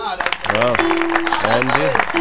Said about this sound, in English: Let's have a little applause. All right.